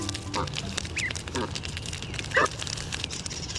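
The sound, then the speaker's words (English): Canada geese near a local pond call out in four short, nasal honks spaced irregularly over a few seconds, set against a steady hiss of background noise, with the last call the loudest. “Young goslings, along with their caring and defensive parents.”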